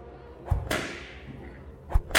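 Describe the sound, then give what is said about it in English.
Sharp whip cracks snap out several times at uneven intervals, one followed by a brief ringing tail, loud against a low background rumble, with no voices. “At the crack of a whip, they are marched two by two through the narrow streets of the city, following a train of camels and pack animals.”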